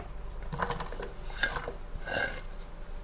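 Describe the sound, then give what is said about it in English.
Chopped onion is dropped from a chopping board into a hot pan on the stove in a few quick bursts of rustling clatter and soft scraping, with a light hiss underneath and no talking. “We'll put the onion in now, and I've just got it sitting on a chopping board, which we just carry over to the stove and drop it in.”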